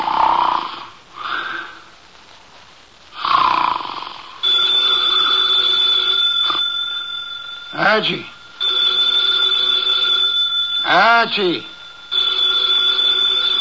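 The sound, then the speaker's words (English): A telephone on the desk in Nero Wolfe's office rings in long, steady electronic bursts, loud and insistent, after a few seconds of heavy snoring from Nero Wolfe asleep in his chair; a man's voice calls out twice over the ringing. “The phone, if you please, Mr.”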